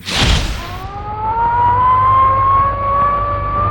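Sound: air raid sirens wailing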